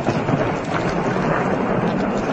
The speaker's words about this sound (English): Probably haven't seen or heard that too often. It's called thunder snow, and you need the right ingredients for it to happen. Cold air on top of warm air with moist air close to the ground.